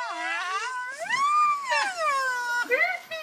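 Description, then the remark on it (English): A male Sumatran rhino's whistle blow call: a string of high, squeaky whistling wails that swoop up and down in pitch, broken by short breathy bursts of air blown out through the nostrils, with no talking. “They do this high-pitched squeak and then a burst of air out through the nostrils.”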